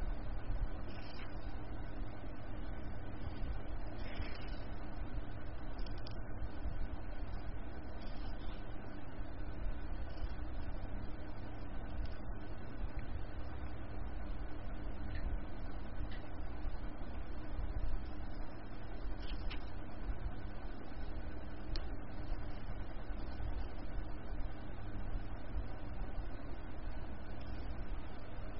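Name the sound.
electric fan running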